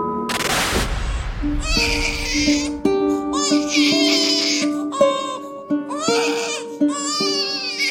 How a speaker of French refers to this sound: Ce bébé qu'elle n'a jamais oublié, bien sûr, elle l'a entendu crier quand il est sorti de son ventre. Un cri vif, un cri de vie.